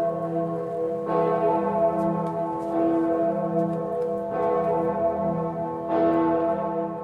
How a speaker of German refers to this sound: Von der weltberühmten Gloriosa-Glocke am Erfurter Dom. Aber seid nicht enttäuscht, wenn das nicht klappt, denn die Gloriosa-Glocke, die wird nur an 8 hohen Feiertagen im Jahr geläutet oder wenn zufällig gerade im Dom ein Priester geweiht wird.